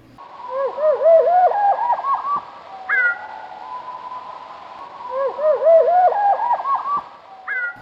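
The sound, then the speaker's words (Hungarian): A bird's trilling scale, the end of its song, played back at a quarter speed: a run of drawn-out, swooping whistled notes, clear, repeated in two phrases with no talking. “A skálázás négyszeres lassításban így hangzik.”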